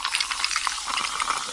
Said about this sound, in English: Now I'm pouring it over some ice. Hear all those deliciously fizzy Pepsi bubbles? Those are zero sugar bubbles, because Pepsi Zero Sugar has zero sugar.